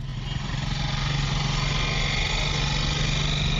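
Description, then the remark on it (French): A small motorcycle taxi engine runs steadily in Yaoundé as the driver takes a passenger aboard, a continuous low rumble and buzz with no pauses, loud and unbroken for the whole few seconds. “C'est dans cette ambiance, sur le chauffeur Kerestang et Foudou, embarque un passager à bord de sa moto à Yaoundé.”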